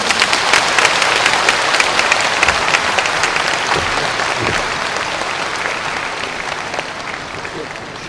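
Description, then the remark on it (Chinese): An audience applauds steadily for about eight seconds, a dense, even wash of many hands clapping at a sustained loudness that eases slightly toward the end, welcoming a pastor as speaker at a Christian conference. “我们一起掌声欢迎戴季中牧师。”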